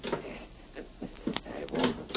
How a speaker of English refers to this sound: Wait till I see which key fits. Can't you find the right one? Here it is. Careful how you open that door.